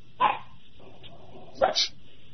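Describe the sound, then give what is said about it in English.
A dog barks twice, two short sharp barks about a second and a half apart, thin and slightly muffled, heard over a caller's phone line, with no talking. “I think that's a bark.”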